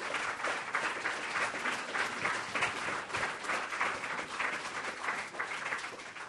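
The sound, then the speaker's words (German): Sustained applause from a large audience, dense overlapping claps filling the room at steady loudness for several seconds without a break. “Ich denke, Sie haben einen Applaus auch verdient.”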